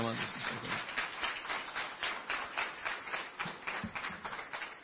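An audience applauds a man with a steady patter of many hands clapping together. The sound is dense and crackling, holding at a fairly even level for about five seconds.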